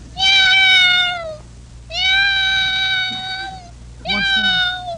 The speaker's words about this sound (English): All right. Now let's listen to kitty number 2.